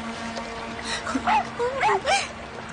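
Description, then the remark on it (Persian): A dog whines in a few short, rising and falling whimpers over a steady low hum of background noise. “بیا اینجا، بیا اینجا آقا سگه.”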